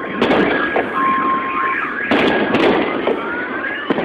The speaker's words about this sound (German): Alarmanlagen heulten auf, es krachte und unter den Einwohnern herrschte Panik.